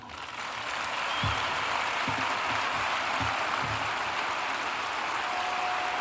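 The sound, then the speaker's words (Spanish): A large crowd of many people at El Sadar stadium applauds in a sustained, steady ovation at a special farewell event for Oier Sanjurjo organized by Club Atlético Osasuna, a dense hiss of clapping at even loudness throughout, broken by a few dull low thumps. “Bueno, todo esto seguido, ahí escuchan la ovación de muchísima gente que se ha acercado al campo del Sadar para despedir a Oier Sanjurjo en este acto especial organizado por el Club Atlético Osasuna, el club al que ha dedicado muchísimos años”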